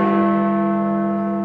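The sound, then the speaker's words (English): Big Ben's large clock-tower bell in London tolls at noon with a deep, sustained ring, its rich overtones humming steadily and slowly fading, loud and resonant with no voices present; the toll begins two minutes of nationwide silence across Britain for an 80th anniversary. “The noonday toll of Big Ben's bells”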